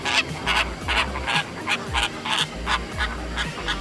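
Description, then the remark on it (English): A flock of flamingos gabbles in a steady, goose-like chatter of nasal honks, many birds calling in quick overlapping bursts at an even volume with no voices. “On my second visit, since I knew they made this goofy gabbling sound, it's grown on me.”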